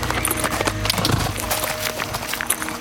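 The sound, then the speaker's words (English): A horse's hooves clip-clop in a steady rhythm by a small stream near a mountainside cave, moderately loud, with no voices over them. “I start my horse by a small stream.”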